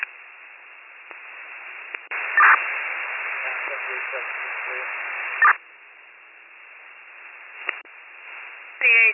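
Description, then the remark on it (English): Hissing, crackling static fills a narrow-band police radio transmission as unit 7311 reports clear, with a louder burst of noise in the middle and short squelch clicks and chirps at the breaks. “There was a lot of static, but I believe you said you're clear.”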